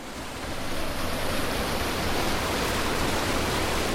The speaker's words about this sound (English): He also runs this local irrigation system. So when you open those head gates, the water comes over the top of that and past in there.